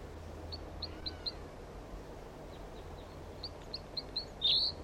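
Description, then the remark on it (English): A bird in a pine tree right above a net site gives repeated short, high chirps in small clusters over steady low background hum, ending with a louder, brighter call; no one speaks. “One of the birds is in a pine tree right above the net site and going down.”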